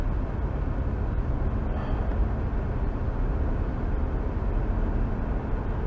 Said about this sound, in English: It doesn't matter what time of the day. There's a fucking jacked up truck somewhere that ain't fucking paying attention or just doesn't give a shit about other people.